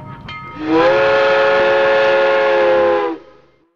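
A loud steam train whistle blows one long sustained chord for about two and a half seconds, rising sharply at the start and cutting off, over a low rumbling background.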